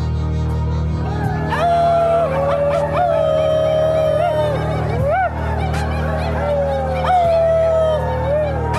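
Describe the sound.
Several people imitate coyote howls together as a farewell at the end of a program, with overlapping wavering yips and drawn-out rising and falling wails that fill the whole stretch, fairly loud over a steady low hum.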